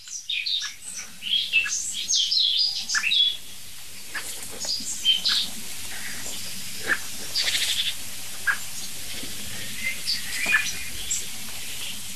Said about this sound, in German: Es nervt im Augenblick wirklich nur die Amsel, so wirklich.